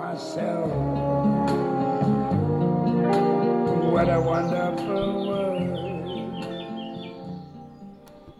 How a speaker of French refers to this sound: Nous voilà accompagnés de la petite fauvette, tu sais, tu l'entends, derrière nous. Bien sûr que je l'entends. Nous sommes bien à Base Nature Vercors